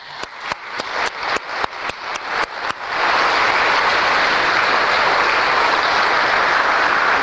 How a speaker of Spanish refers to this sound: Aplauso más.